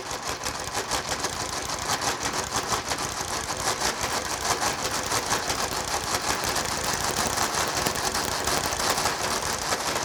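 A mechanical calculating machine churns steadily for ten seconds while computing the square root of 2, a dense, even clatter of rapid gear ticks and whirring, like a sewing machine running without pause, with no voices.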